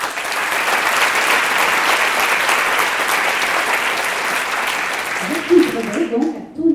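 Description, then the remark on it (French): A crowd applauds a person present at an evening event, steadily and loudly for about five seconds; the clapping then fades as a man's voice starts speaking over the last of it. “qui est ici ce soir avec nous et nous l'applaudissons.”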